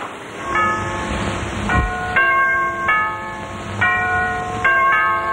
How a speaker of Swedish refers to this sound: Ring, klocka! Ring i bistra nyårsnatten mot rymdens norrfensky och markens snö.